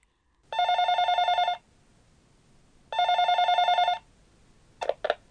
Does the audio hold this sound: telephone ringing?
yes